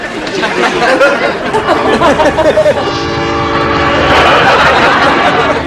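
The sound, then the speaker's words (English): A loud train rumbles by, and a few seconds in a sustained horn blares over the roar of the passing cars, with some indistinct chatter near the start. “I got them a train set.”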